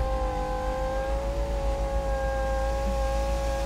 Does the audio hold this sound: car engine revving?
yes